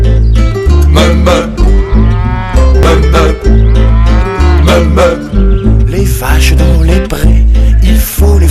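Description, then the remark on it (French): Several drawn-out cow moos with sliding pitch ring out loudly over a steady, thumping musical backing, one after another with short gaps between them. “Me font les vaches font me.”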